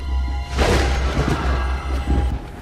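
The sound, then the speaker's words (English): A sudden crash of thunder breaks out about half a second in, then a loud, deep rumble rolls on through to the end with no voices. “I'm telling you, that's the same lightning that happens when my wife gets pissed.”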